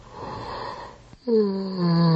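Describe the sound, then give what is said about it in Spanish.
A person yawns: a long, breathy intake of air, then a drawn-out voiced groan that slides down in pitch and stays loud to the end. “¿De bostezos? Pues sí, ese de hecho era yo.”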